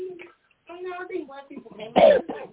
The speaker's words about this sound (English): I mean, he just coughed in the mic.